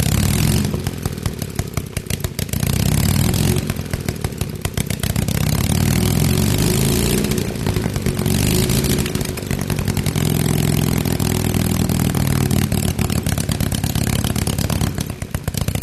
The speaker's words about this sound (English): They're really unique because there's no exhaust pipes on them. So the ports into the cylinder are open. And flames actually shoot out when it runs. So it's pretty neat. We should hear this.